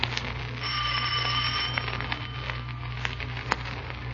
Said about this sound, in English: Here it is, Markheim. The dealer's house. Ring the bell. Don't hesitate, Markheim. Ring it.